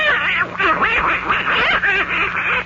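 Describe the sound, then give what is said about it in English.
A voice imitates a duck named Abigail with a rapid, continuous run of nasal, wavering quacks, loud, like excited duck chatter lasting a few seconds. “I wouldn't believe a duck could have so much fun.”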